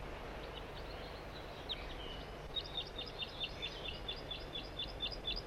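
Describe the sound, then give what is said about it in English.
A crossbill sings from the top of a dead tree, recorded from right underneath the tree: a rapid series of high, sharp chirps and trills, faint at first and then louder and more regular in the second half, over a steady low background hiss. “Those birds are still singing here.”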